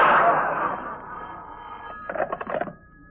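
A telephone bell rings in a quick burst of rapid, rattling pulses, preceded by a fading metallic wash of sound at the start.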